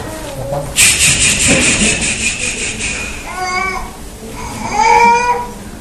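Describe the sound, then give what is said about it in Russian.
A baby fusses and babbles in short, rising and falling whimpers over a steady rustling, shuffling background; no adult speech is heard. “Похоже, ребенок голодный или переел.”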